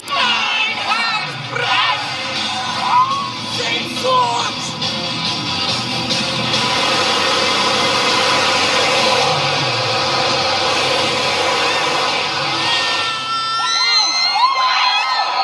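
A large concert crowd shouts along to the band's songs, roaring continuously, voices blending into a dense wash of noise, with sharper individual yells and whoops rising above it, especially toward the end.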